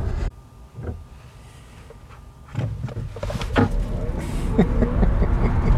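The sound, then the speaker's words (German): A heavy car accelerates hard, heard from inside the cabin, with road and wind rumble swelling steadily louder over a few seconds, punctuated by a few faint knocks and clicks. “Für so ein schweres Auto schon gar nicht so verkehrt. Das, ich bin begeistert, wie schnell das auch kam.”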